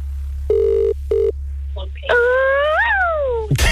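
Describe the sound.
A voice imitates a phone ringing: two short, steady beeping tones, then a longer warbling ring that swoops up and down, loud over a low background hum.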